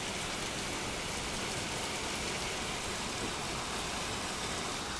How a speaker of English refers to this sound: a very exciting moment as courting a freak electrical storm in Normanton. Not what you expect at this time of year. You can hear the sound of the hail bouncing down.